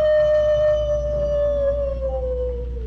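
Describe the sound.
A person's voice imitates a coyote howl: one long, sustained 'woo' that holds steady and then slowly sinks in pitch, clear, with no talking around it.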